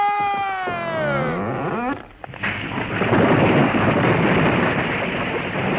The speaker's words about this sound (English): Okay, Chuck, this one's ready. Stand clear. Timber!